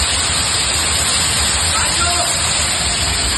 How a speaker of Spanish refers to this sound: Los casi 72 litros que cayeron en menos de una hora en ese aeropuerto de Son San Juan, que han sido todo un récord en un mes de junio y que provocaron inundaciones dentro y fuera, auténticas cascadas de agua cayendo dentro de la terminal,